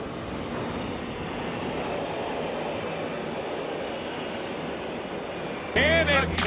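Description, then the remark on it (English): A subway train rumbles along with a steady, loud roar filling the space, and a brief high-pitched squeal near the end. “Welcome to the subway, man.”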